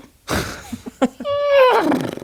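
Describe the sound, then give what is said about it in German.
A person imitates a horse: a breathy snort and a few short clicks, then a loud, wavering, nasal whinny that slides up and down in pitch for under a second. “Warum hast du gerade so ein Pferdegeräusch gemacht?”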